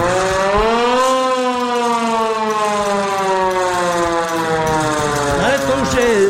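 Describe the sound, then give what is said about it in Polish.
A loud red fire brigade siren at a firefighting museum wails steadily, its rich, droning tone sliding slowly downward in pitch over several seconds as it winds down. “Widać taką czerwoną syrenę. To działa w ogóle? To działa, ta syrena, to samo, nie?”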